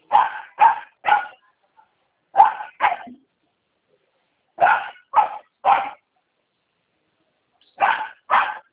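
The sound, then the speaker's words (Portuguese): A dog barks in short bursts of two or three sharp woofs, with brief pauses between each group, loud, with no talking. “Esse cachorro cala a boca ali.”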